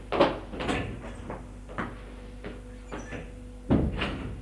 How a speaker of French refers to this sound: Le jeune le précède. Il parcourt l'appartement en ouvrant les portes.